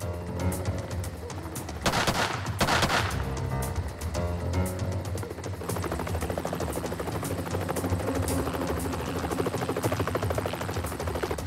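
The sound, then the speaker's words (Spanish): A helicopter roars overhead, watching over a barn from above as a SWAT team takes positions around the perimeter, its rotor chopping in a steady rapid rhythm, while loud bursts of gunfire from a team sniper crackle through the din early on. No voices. “Mientras un helicóptero vigilaba al granero desde arriba, los miembros del equipo SWAT tomaban posiciones alrededor del perímetro.”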